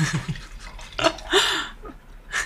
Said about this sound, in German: Ich schenke dir mal einen Schluck ein. Danke sehr. Gluck, gluck, gluck, gluck, gluck.